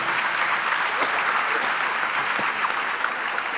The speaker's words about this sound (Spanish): De un aplauso al Señor en esta noche.